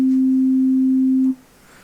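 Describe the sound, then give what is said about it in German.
A pure, steady synthesizer sine wave tone, with only the fundamental and no overtones, holds a single low-mid pitch for about a second and a quarter, then cuts off cleanly, leaving faint background hiss. “Die Sinuswelle hat die Eigenschaft, als einzige aller Wellenformen nur die Grundwelle zu haben und keinerlei Obertöne.”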